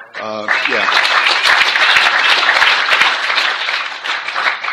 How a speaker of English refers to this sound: And I certainly hope that you're applauding for Alcoholics Anonymous, because if you're applauding for me, that's the wrong thing to applaud for.